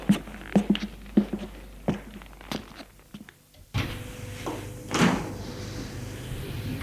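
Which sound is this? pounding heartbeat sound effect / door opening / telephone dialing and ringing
door opening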